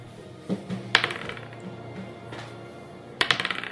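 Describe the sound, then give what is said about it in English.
Dice clatter across a hard table as initiative is rolled: a few sharp, isolated clicks, then a quick burst of rattling taps near the end, with quiet behind them. “And we'll roll initiative.”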